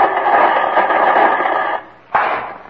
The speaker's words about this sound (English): Oh, no, no. This radio really works, Fred. I'll tune in and show you, huh? Well, that's as nice a static concert as I've ever heard, Jimmy.